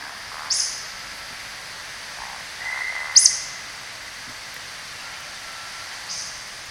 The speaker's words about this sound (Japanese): これピーっていう方じゃないの？ うんとね、ブッブブッピッピーじゃないの、キチッって言うんだよね。ブッブブッキチッ。もう一回やる？ うん。それ同じ鳥なのね。 同じ鳥なの。